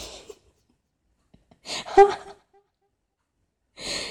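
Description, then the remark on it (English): Heavy, rasping breaths, three loud huffing bursts with pauses of silence between them, the middle one carrying a brief throaty, whistling edge. “Why are you breathing so heavy, huh?”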